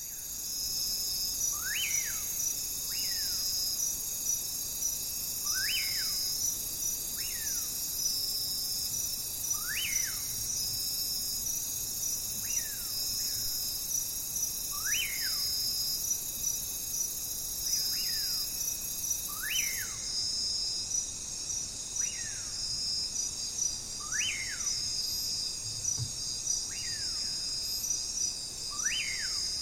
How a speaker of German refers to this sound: Eine Rangerstation irgendwo im Regenwald. Kaum haben wir sie erreicht, stimmen die Zikaden in ihr abendliches Lied ein.